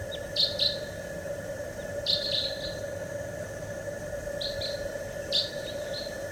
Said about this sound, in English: Recording some wild type twos around. Decoys. Stop. Wild bird. Wild.